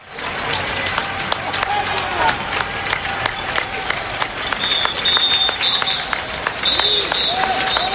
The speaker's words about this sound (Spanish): Hoy han vuelto a sonar los aplausos que aquí haremos nuestros también en cada brújula, a los sanitarios.